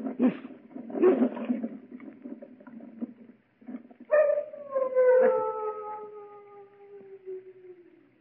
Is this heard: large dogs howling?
yes